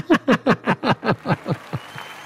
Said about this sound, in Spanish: ¡Aplausos, por favor!